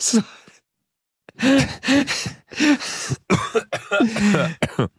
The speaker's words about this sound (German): Bruder, mich hat wieder erwischt. Du hörst mich husten.